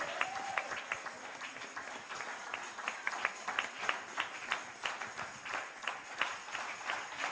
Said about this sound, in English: Ladies and gentlemen, with Jesus' joy, help me welcome God's pastor. Are you clapping?